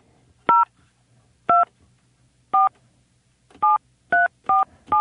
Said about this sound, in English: Why don't we do this? I'm going to hit a line here, and I'm going to call.